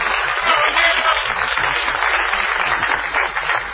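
Steady applause from an audience, a dense, continuous wash of many hands clapping at an even loudness throughout, with no voices standing out.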